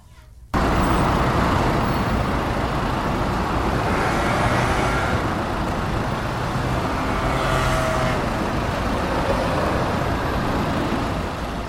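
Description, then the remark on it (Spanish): Dense street traffic roars steadily, a constant wash of engine rumble with buses and cars passing, swelling now and then as heavier vehicles go by, recorded on a street where people walk near Cristo Rey in northern Madrid, an area with many hospitals. No one speaks. “Uf, eso es poner la grabadora a pie de autobús, ¿eh?”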